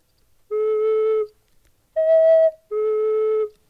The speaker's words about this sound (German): Wenn du da einen Finger drauf machst, brauchst du ja eine halbgedackte Pfeife. Das heißt, das Rohr wird länger. Ja. Dass es tiefer wird, macht Sinn.